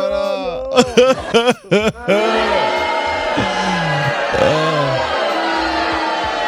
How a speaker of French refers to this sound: Voilà. C'était les cris de désespoir de Radio Carnaval. Ah, c'est les cris de désespoir.